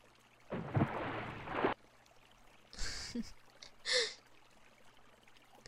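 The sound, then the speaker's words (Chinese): Soft water sloshing as someone eases gently into a pool of comfortably warm water: a longer gentle swish of moving water, then two brief, quieter splashes, with no talking. “池子里的水温刚好呢，快下来吧。你这次下来可要轻一点哦，不要一下子下啊，跟上次一样。”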